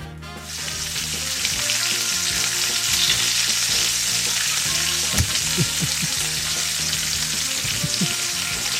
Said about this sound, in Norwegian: Det er gryte som koker på et bål, da, som koker over.